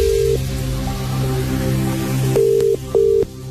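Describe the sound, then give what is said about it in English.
A telephone being dialed to call someone: a steady mid-pitched tone over a low hum, then a few short, evenly spaced electronic beeps near the end. No one speaks. “So we got to go again. Let's call somebody else.”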